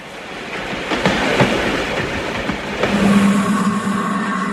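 A train car rumbles steadily along the rails with a few irregular clacks of the wheels over joints, fairly loud, with a low droning hum rising in the second half.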